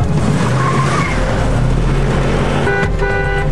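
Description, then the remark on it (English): A gold Land Rover brakes hard as it approaches an intersection in traffic, its tires screeching into a skid over a loud, steady engine rumble, with the high squeal sharpening near the end. “His brake lights come on as he approaches an intersection.”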